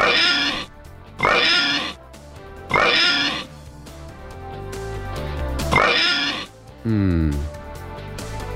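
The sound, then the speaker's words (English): A run of loud, harsh pig oinks and squeals, five bursts spaced about a second apart, the last one more tonal and drawn out, with no talking. “That's four, a four oink.”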